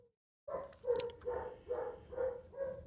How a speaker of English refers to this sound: Sorry, folks. I'm sorry for a little barking in the background.